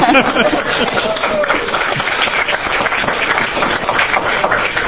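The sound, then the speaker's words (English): A group at a legislative committee meeting breaks into steady, dense applause lasting several seconds, the many overlapping claps forming a continuous crackling wash, with faint voices mixed underneath. “Can I clap?”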